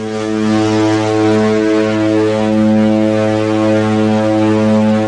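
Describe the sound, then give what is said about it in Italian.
A ship's siren, signalling arrival in port, blares in one long, steady low-pitched tone, rich with harmonics, sounding loudly and continuously for the whole five seconds with no voices. “La sirena ci avvisa che stiamo giungendo in porto.”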